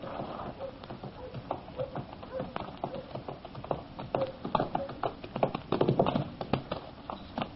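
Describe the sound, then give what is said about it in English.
Two horses coming out of a stable, their hooves clip-clopping in an uneven, clattering rhythm of sharp knocks that grows louder toward the end, with a faint murmur of voices underneath and a muffled, low-fidelity tone. “Well, what's he got two horses for?”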